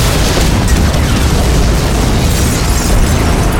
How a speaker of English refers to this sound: The explosion made the floor jump beneath Karis's feet.